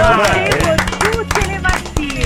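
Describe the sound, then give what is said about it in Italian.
A burst of scattered hand claps, irregular and fairly loud, mixed with several people talking and calling out over the top, during a live broadcast of Radio Grifo Sigillo. “Seguo Radio Grifo Sigillo, la mia un applauso!”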